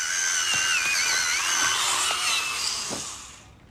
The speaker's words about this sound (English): She's sharpening her pencil.